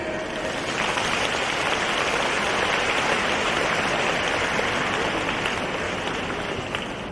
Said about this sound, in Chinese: 让我们再次用掌声感谢